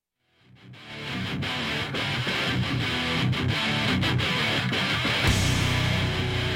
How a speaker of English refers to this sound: Man, love that heavy guitar.